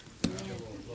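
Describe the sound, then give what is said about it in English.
A single quick sneeze bursts out sharply near the start, followed by a brief voiced trail and a low, steady hum with faint murmuring in the background. “Bless you.”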